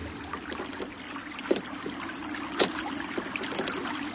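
Oars splash in water as a boat is rowed by a woman who has just taken the heavy oars, her strokes slow and uneven at first, gradually becoming more regular and frequent, with a couple of distinct dips standing out over a steady wash of moving water. No one speaks.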